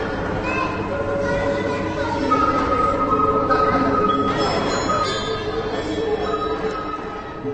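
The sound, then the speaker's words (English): A dense, continuous din of metallic clanging and banging at the Play exhibition in the Manes Gallery, as visitors, often children, bang wood on metal and set cymbals vibrating, with ringing overtones that hum and shimmer, staying loud and busy throughout with no clear rhythm. “When you enter the Manes Gallery these days, the first thing you notice is the noise. Clanging, crashing, banging wood on metal, vibrating cymbals, as visitors, often children, run from object to object, display to display.”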